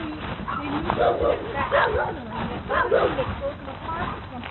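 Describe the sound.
A dog barks and yips in short bursts a few times, muffled, over a thin, phone-like background with voices murmuring.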